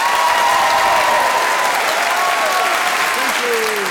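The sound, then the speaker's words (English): A Festival Fringe audience at a recording of Just a Minute at the Pleasance in Edinburgh bursts into steady, loud applause with cheering and whoops rising above the clapping, sustained without a break throughout. “before us we have a really hyped-up Fringe audience ready to cheer us”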